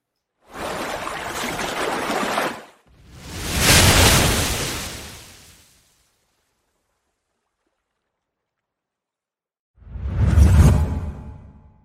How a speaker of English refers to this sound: That is what we're going to show you how to do in today's template after this first whoosh.